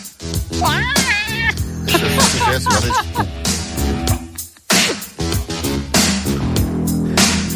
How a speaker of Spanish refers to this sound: Gemido. Un gato pisado.